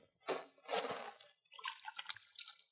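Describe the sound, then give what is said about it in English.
Water is scooped from a poisoned water hole and splashed in two short bursts to test it, then trickles and drips back down in quick, uneven patters, fairly quiet. “I'm going to test the water.”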